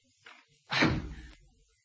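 The study room door bangs shut with one heavy, resonant thud, preceded by a faint softer knock, then rattles briefly as it settles, with no voices.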